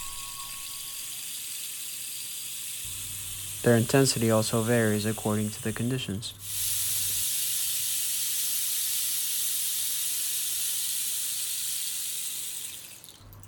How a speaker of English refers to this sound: Rain sticks will play if there's rain in the forecast.